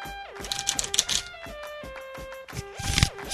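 A deck of playing cards is shuffled with a stand shuffle in several quick, crisp riffling bursts, rapid fluttering clicks that rise and fall, with a soft steady tone humming underneath.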